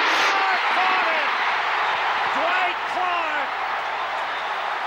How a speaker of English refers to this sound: Strangers are screaming and hugging each other in the crowd.